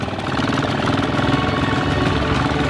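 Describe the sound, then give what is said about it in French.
A small prototype motorbike engine purrs steadily, a continuous mechanical hum with a fast, even rhythm and no pauses, holding at a moderate level throughout. “On entend le ronronnement du moteur.”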